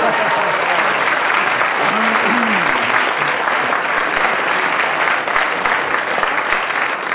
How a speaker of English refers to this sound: And he got a very good round of applause, yes. So, Clement Freud was speaking on proportional representation as the whistle went and gained an extra point.